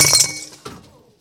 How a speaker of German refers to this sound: Die Flasche zerspringt in tausend Stücke.